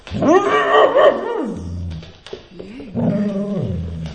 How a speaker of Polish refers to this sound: Gdy nie przy falochronie i pan podsunął jej mikrofon, to zaszczekała zupełnie nieoczekiwanie do tego mikrofonu, także tak się z kimś zadziało.